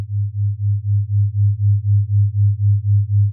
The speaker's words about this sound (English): I will play a frequency in your left ear and a slightly different frequency in your right. These are flat tones, but when heard together, your brain creates a rhythmic beat.